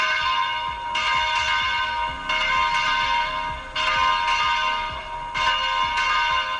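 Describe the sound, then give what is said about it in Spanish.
A parish church bell in the diocese of Osma-Soria, Spain, tolls a funeral knell after news of a death, slowly and steadily, about five strikes spaced well apart, each ringing out with long, shimmering overtones, calling the faithful to prayer. No voices are heard. “A los pocos minutos de conocerse la noticia de su muerte, las campanas de las parroquias de la diócesis oxomense invitaban a los fieles a la oración con su tañido fúnebre.”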